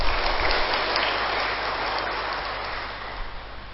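A crowd of lay Buddhist men and women claps steadily as a pledge during a Buddhist talk, in a dense, sustained wash of applause that stays fairly even and fades slightly toward the end, with no voices heard over it.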